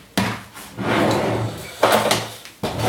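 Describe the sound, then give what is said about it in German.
A 500-gram plastic bag of sauerkraut being torn open by its tear strip: sharp ripping bursts separated by stretches of loud, crinkly rustling, with no talking. “Als allererstes Sauerkraut aufmachen. In der Tüte der Vorteil, ne? Also ist so ein Reisstreifen dran. Da kann ich das einfach aufreißen.”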